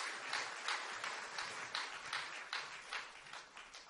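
An audience at an Isaac Bible College graduation ceremony applauds a graduate receiving a diploma, steadily throughout, a dense, even wash of many hands clapping at a moderate, fairly soft level, with faint rhythmic pulses in the crowd's clapping and no voices.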